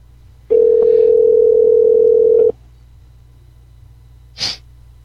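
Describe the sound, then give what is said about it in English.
A single steady ringback tone sounds for about two seconds on an outgoing phone call to a 22-year-old son, followed by quiet and then a brief, sharp sniff-like burst near the end. No one speaks. “Let's see if he picks up the phone.”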